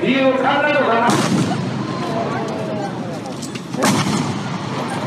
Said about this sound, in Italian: Due spari rompono la calma. Abe viene ucciso da un ragazzo, tale Tetsuya Yamagami, senza un apparente motivo.